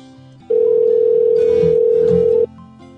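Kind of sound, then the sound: signal or alarm, outgoing phone call ringing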